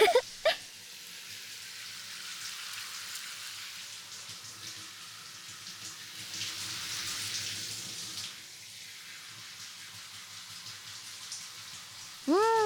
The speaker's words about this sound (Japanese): シャンプーのコツは、この時しっかり頭皮まで濡らせるかどうかなんだよね。しっかり濡らしておかないと、シャンプーしてもちゃんと効果が十分出なかったりするし。頭皮の汚れを取るためには、絶対最初の濡らすこのシャワーが大事。